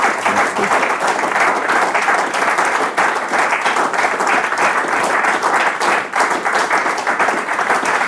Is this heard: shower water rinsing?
no